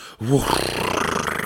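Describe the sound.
A sudden, sharp vocal gasp with a brief voiced rise in pitch, followed by a longer rush of breathy, noisy air that trails on steadily. It is close and fairly loud.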